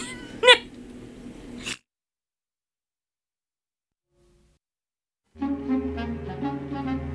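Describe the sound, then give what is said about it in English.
A single short cat meow rings out near the start over a background of music, followed by a few seconds of silence before the music comes back in. “It'll bring back Meow Maurice.”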